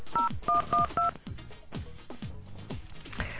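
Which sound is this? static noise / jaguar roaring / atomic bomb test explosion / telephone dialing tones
telephone dialing tones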